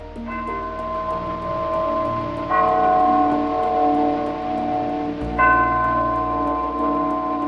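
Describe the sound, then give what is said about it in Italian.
Church bells from the film Street Angel, set in Naples, ring out in slow succession, each new stroke layering over the lingering hum of the last, producing a loud, resonant wash of overlapping tones with no voices. “Il suono di queste campane viene invece dal film Street Angel, tradotto in italiano come L'angelo della strada.”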